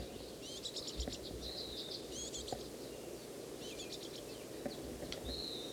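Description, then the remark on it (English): Shrill, rapid begging chirps from a juvenile bird that has just been fed, fluttering its wings and begging for more, come in several short bursts, with a thin high whistle between, all fairly faint over a steady low background rumble. “Bird just got fed. Fluttering its wings, begging some more.”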